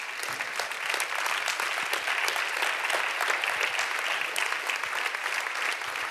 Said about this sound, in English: Hallelujah. Can you clap your hands unto God?